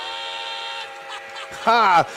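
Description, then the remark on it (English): A train whistle sound effect plays a steady, multi-toned blast for close to a second, then after a brief gap a short, loud, wavering whistle note bends up and down. “Hit that train.”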